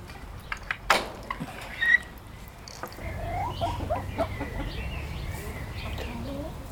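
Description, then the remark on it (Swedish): Mixed-breed hens and a Swedish flower hen (blommehöns) rooster cluck softly in short, scattered calls over a steady low background hum, following a few sharp knocks near the start. No one speaks. “Hönorna är blandras faktiskt från vår tidigare hönsgård.”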